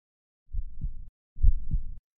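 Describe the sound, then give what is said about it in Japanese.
Two slow, muffled heartbeats thump, each a low double pulse lasting about half a second, separated by a brief gap of silence. No voices. “さ、心臓の鼓動、聞こえるかな？”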